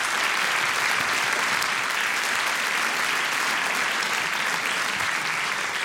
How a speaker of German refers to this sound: Dankeschön, kleiner Applaus für die beiden, für die Offenheit.